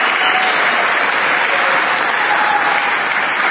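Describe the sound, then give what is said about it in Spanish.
An audience at an awards presentation bursts into sustained applause for the Tacones y Bolsos team, nominees for Web TV Revelación del Año, a dense, even wash of many hands clapping at steady loudness throughout, with no voices standing out. “Tacones y Bolsos, un aplauso, que están por aquí además.”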